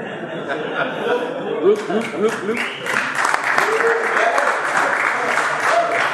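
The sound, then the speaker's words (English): A crowd breaks into sustained applause mixed with scattered laughter, the clapping dense and steady throughout while bursts of chuckling rise and fall above it, fairly loud. “Now I know you will clap for anything.”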